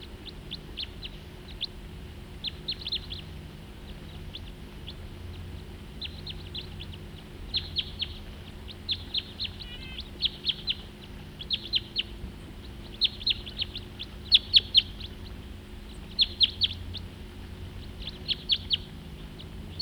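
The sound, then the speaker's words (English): Two crossbills calling together in the same tree, giving short, sharp, high-pitched chips in quick irregular bursts throughout, some louder than others, over a steady low background hum. “Two birds together now, in the same tree.”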